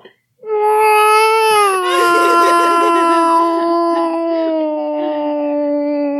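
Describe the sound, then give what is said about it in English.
A human voice imitates a cat's meow with one long, loud, plaintive wail lasting about six seconds. It starts slightly higher, then slides down and holds a steady, mournful pitch. “And then I'm going to do the saddest, loudest, help me meow.”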